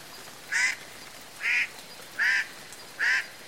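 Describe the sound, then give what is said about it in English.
Four harsh, nasal calls from a Hawaiian crow, evenly spaced about every 0.8 seconds, clear against a quiet background with no talking. “The Hawaiian crow.”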